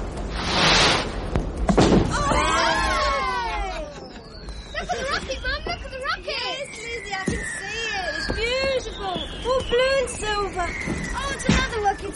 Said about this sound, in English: Now, not so fast, Jonathan. These fireworks cost money, you know.